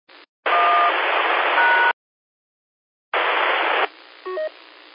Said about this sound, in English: It did not pick up your one. Try it again. Hold the one a little bit longer. You got a lot of static in there, and that kind of makes it hard to decode DTMF with all that static.